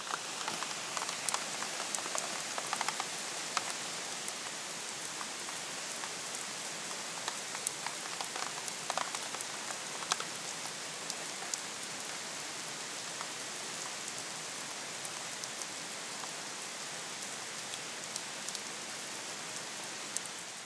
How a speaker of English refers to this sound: I thought I'd start things off with sharing a torrential downpour in northern Jersey right now, so let's listen in for a little bit.